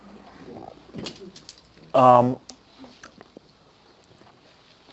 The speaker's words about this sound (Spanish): Y caminaba y vi enfrente un pájaro. Parece que su plumaje era el mismo color que yo. Cuervo, ¿no? Y me acercaba al cuervo y no tomó vuelo.